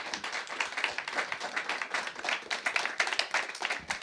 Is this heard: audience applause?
yes